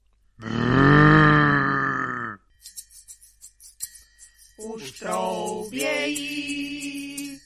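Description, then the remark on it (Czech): A red deer stag in the mountains lets out a long, loud, throaty bellow lasting about two seconds, followed by a patch of faint clicking and rattling, then further drawn-out, moaning rutting calls. “Už troubějí, na horách jelení”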